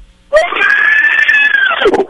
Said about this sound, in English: Holy shit! My neighbor just yelled, yeah! No, that was your neighbor? He sounds like one of those.